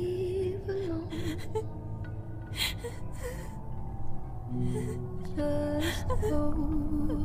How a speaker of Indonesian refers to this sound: dan suara tangisannya pun menghilang lagi. Kunyalakan lagi musikku sedikit lebih keras, suara tangisannya pun terdengar lebih keras. Aku pun kembali mengecek keluar mencari sumber suara tangisan tersebut.